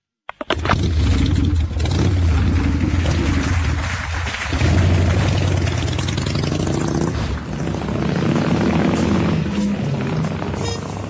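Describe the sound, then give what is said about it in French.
A loud engine kicks in abruptly and runs steadily, its low rumble rising and falling as it idles and revs, with a rattly, rough edge throughout and no voices. “Moteur!”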